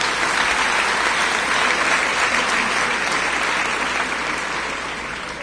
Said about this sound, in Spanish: Un aplauso para el profesor Richard Stallman.